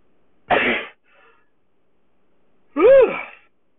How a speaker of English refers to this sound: I got a sneeze right now, and I wish she was here. Excuse me.